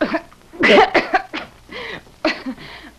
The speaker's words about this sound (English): Oh, dear. My voice just won't behave when I feel a cough coming on.